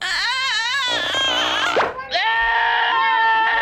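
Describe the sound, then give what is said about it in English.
A goat bleats loudly and continuously in a long, wavering cry, breaking briefly before a second sustained bleat rises; no speech. “She's given birth to a goat.”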